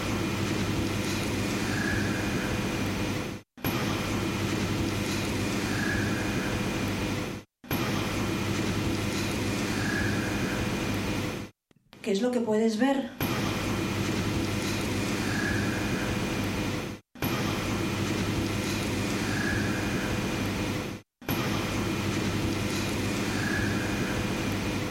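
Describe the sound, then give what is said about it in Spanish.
A psychophony (paranormal voice) recording: a steady, hissing and rumbling noise plays in repeated loops broken by short dropouts, with one brief, wavering cry, half scream and half pained moan, rising out of the static midway. “Yo oigo más que un grito como un estertor, como un suspiro de dolor”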